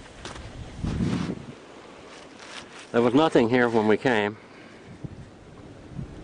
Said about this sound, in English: the creek. Creek is roaring right along here.